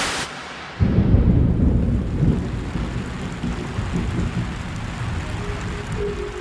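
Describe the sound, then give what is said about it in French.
Steady, soft fine rain hisses throughout over Kampala, Uganda, in the morning, while a deep thunder rumble rolls in after a moment and lingers low underneath. No voices. “Le lendemain matin, lundi 28 juin, une pluie fine s'abat sur Kampala, la capitale de l'Ouganda.”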